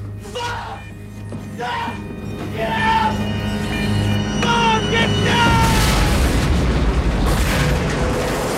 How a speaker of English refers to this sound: The whole truck explodes, then another silver van bursts through the smoke driven by Kane.